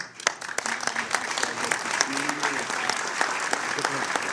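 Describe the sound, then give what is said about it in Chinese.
Sustained, warm applause from many countries' delegates in the Trusteeship Council chamber at United Nations headquarters in New York as Palestinian President Abbas takes the chair of the Group of 77, many hands clapping in a dense, steady patter with a few sharper claps standing out, joined by faint murmuring voices underneath. “今天上午，在联合国纽约总部的托管理事会会议厅，在众多国家代表的热烈掌声中，巴勒斯坦总统阿巴斯坐上了77国集团主席的位置。”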